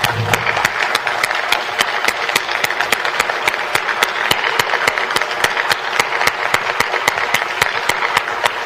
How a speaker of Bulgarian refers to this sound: Нека да изпратим с аплодисменти президента и министър-председателя.